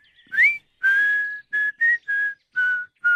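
A man whistles a slow melody up close, a string of clear, steady notes separated by short pauses, the first one gliding upward before the rest settle into a gentle tune.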